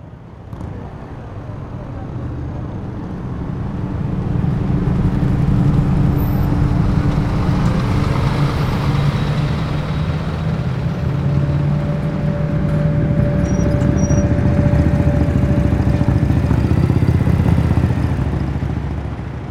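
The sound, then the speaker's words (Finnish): A line of cars of summer holidaymakers returning from Tallinn hums past at Helsinki's Länsisatama (West Harbour) after the ferry MS Finlandia arrives, in a continuous low, steady rumble that swells after the first few seconds and holds, with faint whining engine tones threaded through it. “Autoletka hurisee ohitse.”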